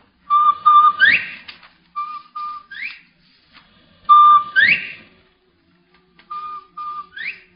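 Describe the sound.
A person whistles an imitation of a bobwhite quail call to call a bobwhite closer: short steady notes followed by a sharply rising, clear whistle, repeated in two similar rounds with brief pauses, no talking.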